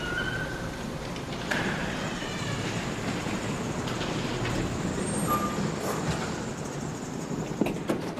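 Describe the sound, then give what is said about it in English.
An ambulance pulls into a fire station with a steady, heavy engine rumble, a few faint brief tones rising above it and a short sharp burst near the end. No one speaks. “Later, it pulls into the fire station.”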